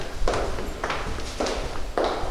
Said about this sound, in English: The whole week was eerie at the State House. Hundreds of lawmakers, staff, and lobbyists were there, but the building was closed to the general public. The usually noisy place was quiet enough to hear a single set of footsteps ring out.